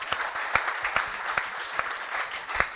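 An audience at a speech to a British audience applauds an organization that stands up for Israel, a dense wash of many hands clapping steadily with a few sharper, louder claps standing out at irregular moments throughout.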